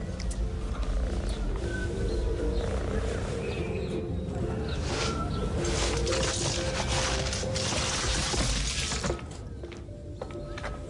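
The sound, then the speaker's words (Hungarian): A cat purring, a steady low rumbling throb that runs for about ten seconds, mixed with a busy, crackly layer of brighter noise and easing slightly near the end. “A cicámnak minden oka megvan a boldogságra. És nekem is, mert ő az én cicám. Viszkesz, doromboljunk együtt.”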